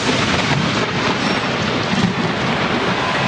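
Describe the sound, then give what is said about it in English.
A loud, continuous roar of thunder from a lightning strike during a Twins–Rangers baseball game rumbles on without pause, heavy, blended with steady hissing rain. No one speaks. “Listen to the announcer how he's caught off guard by this lightning strike.”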